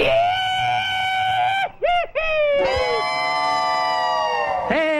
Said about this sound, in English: Confederate veterans, rebel yell.